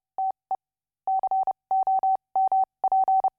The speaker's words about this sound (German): Das Ausgangssignal für die heutige Sendung ist das in einem Morse-Code übersetzte aus dem Jahr 1933 stammende futuristische Manifest La Radia von F.T. Marinetti und Pino Masnata.